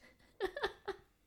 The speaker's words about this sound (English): I don't even know if you guys even heard that, but Bro just sneezed.